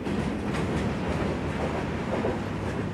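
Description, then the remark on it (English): A freight train rumbles past on the tracks, going fast, a steady loud roar of wheels and rattling cars with faint clacking, continuous throughout, no voices. “The last car sails past, just out of reach.”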